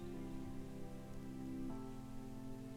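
Steady rain patters and splashes into small nearby streams in a forest, a soft continuous wash beneath sustained, calm musical tones that shift chord partway through. No one speaks.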